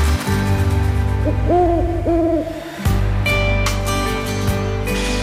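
Owl hooting in the opening of the show El vol del mussol: two wavering hoots in quick succession over a steady, droning background bed, followed by bright chiming tones. No one speaks.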